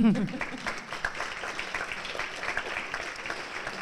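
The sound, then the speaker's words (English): Applause from a group, a dense, steady patter of many hands clapping that holds for several seconds after a brief voice at the start. “I think that needs some applause.”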